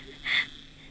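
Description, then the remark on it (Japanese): A vibrator, used during masturbation, gives one short, high-pitched buzz lasting about a fifth of a second, rising clearly above a faint steady background hiss. No one speaks. “やる気に満ち溢れてるな、このバイブ、バイブ、バイブ。”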